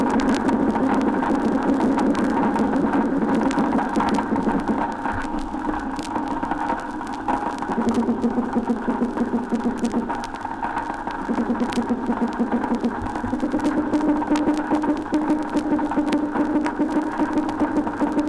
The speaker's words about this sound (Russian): На фоне непрерывных потрескиваний, создаваемых щелкающими рачками алфеусами, мы слышим барабанные звуки, издаваемые рыбами с помощью плавательного пузыря в период нереста.